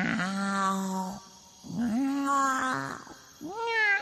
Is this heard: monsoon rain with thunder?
no